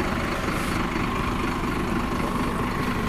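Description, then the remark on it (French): A diesel engine idles steadily with a dense low rumble and a faint rattling hum that holds at the same level throughout. No voices are heard. “Moteur diesel.”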